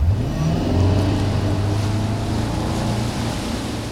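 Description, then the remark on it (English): A wake boat's engine drones loud with a steady low rumble, swelling briefly near the start as it accelerates, over a constant wash of rushing water and spray, as the boat tows a wake surfer on a rope. “Similar to water skiing, a wake surfer is towed behind a boat with a rope, but the person eventually lets go to surf the large waves left in the boat's wake.”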